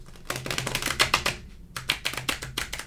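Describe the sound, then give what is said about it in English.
Two bursts of rapid, crisp flapping clicks as someone tries to riffle-shuffle a deck of stiff, thick card-stock playing cards, fairly loud, with a short pause between attempts and no voices. “Was the extra star docked for the shuffling difficulty? It was for the really thick card stock.”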